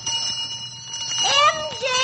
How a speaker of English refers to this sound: I'll hold the phone. Here's your bell